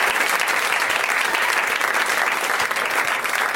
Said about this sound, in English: Thank you to my guests, Adam Pally, Gillian Jacobs, and Werner Herzog. At this point, everyone applauds.